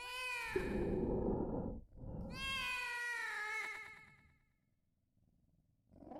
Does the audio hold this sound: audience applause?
no